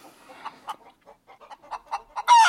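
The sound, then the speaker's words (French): Laying hens kept in cages cluck in a quick, uneven series of short calls, ending with a louder, sharper squawk. “J'ai un peu de peine pour ces poules.”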